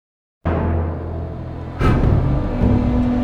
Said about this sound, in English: The dump trucks line up along the beach. A machine with a huge scoop at the end fills each one up with sand. Then they turn around and head south in an orderly procession.